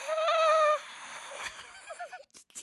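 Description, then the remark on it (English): A person imitates the wind filtering through a jungle forest with their voice: a loud, steady hooting tone for under a second, then a softer, breathy fluttering trill that wavers and fades out. “I was trying to do the wind.”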